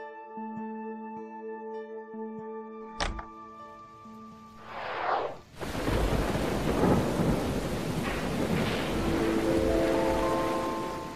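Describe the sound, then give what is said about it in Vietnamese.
A sharp crack of thunder breaks over a quiet, humming backdrop, then a dense roar of heavy rain pours in and keeps going, loud, with deep rumbles beneath. “Sư phụ, ngài hãy vào đây tránh mưa đi.”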